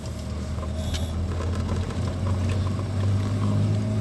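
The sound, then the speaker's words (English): A steady, loud engine drone whose low pitch dips and then climbs again partway through as the vehicle shifts up into third gear and revs back up. No voices. “Oh, what a nice third gear shift.”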